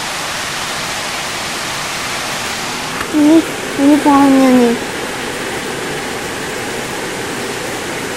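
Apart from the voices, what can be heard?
rain falling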